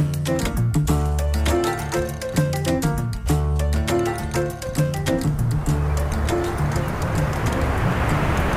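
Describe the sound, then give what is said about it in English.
Birds coo repeatedly in rhythmic bursts at Venice Beach, while the rush of waves and surf grows stronger and fills the background toward the end. “Right now I'm standing in the sand, just fixated on what's going on over there with the birds.”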